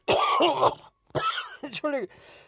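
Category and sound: human body sound, coughing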